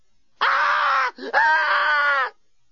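A woman screams loudly in two long, sustained bursts separated by a brief gasp, her voice strained and harmonic-rich, close and alone with no talking.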